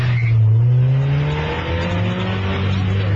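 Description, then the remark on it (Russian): A black Mazda race car's engine revs hard and loud at the start of an illegal street race in Poland, with dozens of other racers ready; its low droning pitch holds steady and then drops slightly as it accelerates, with a harmonic whine layered above and no voices. “Это владелец черной Мазды, который, как и десятки других гонщиков, уже готов к старту.”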